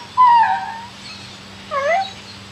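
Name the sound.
dog whining and howling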